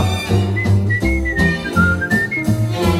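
A bright whistled melody in a played Polish song glides over a full, steady musical backing with thumping low beats, the tune rising and falling in a clear, sustained line throughout.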